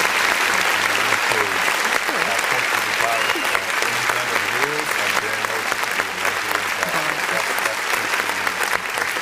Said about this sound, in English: Do we get a clap now? Yes, get a clap, of please.